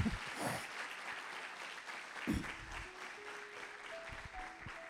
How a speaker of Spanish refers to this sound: Me dan un aplauso. Los valientes. Le dan un aplauso a él.